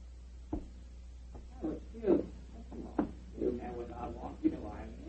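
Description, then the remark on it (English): A front door opens and shuts with a few sharp wooden clunks and knocks while muffled voices murmur indistinctly in the background. “There goes the front door.”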